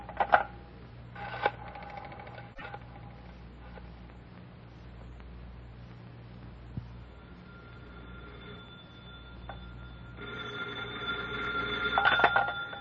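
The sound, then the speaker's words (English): A telephone is dialed with short clicking bursts at the start, then a steady low rumble continues until a loud, rattling phone ring arrives near the end. No one speaks. “Hand me the phone.”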